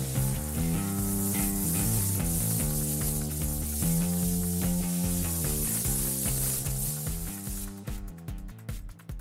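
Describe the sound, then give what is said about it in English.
A five-axis water jet cutter sharpens a pencil held vertically in a small mount: a loud, steady high-pitched hiss over droning, shifting machine tones and rapid ticking, thinning into sharp clicks near the end. No one speaks. “The fact that this machine can cut angles also means that it would make a really good pencil sharpener.”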